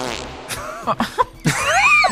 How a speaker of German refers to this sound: Ich hab einen Furz gehört, dementsprechend erwarte ich auch eine Furzantwort.